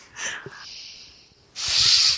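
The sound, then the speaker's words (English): Heavy breathing into the microphone, done as a mock serial killer stalker vlog: a short, airy breath with a thin hiss trailing off, then a pause and a louder, rushing breath. Both are noisy and hissing, with no talking. “Just heavy breathing.”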